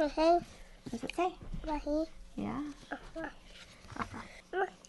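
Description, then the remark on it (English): A young child makes a string of short, bright barking sounds, imitating the dogs' woof in a picture book, in quick irregular bursts, fairly loud with brief pauses between. “Oh, yeah, it has the woofies. What do the woofies say”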